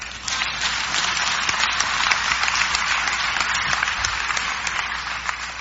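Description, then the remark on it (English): Steady applause from an audience, dense crackling claps holding at a constant loudness for several seconds without a break, with no voices over it. “Clap.”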